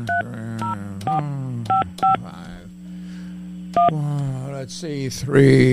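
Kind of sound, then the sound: signal or alarm, telephone keypad dialing tones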